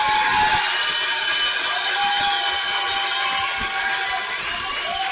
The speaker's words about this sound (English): How about another round of applause, everybody, for your head football coach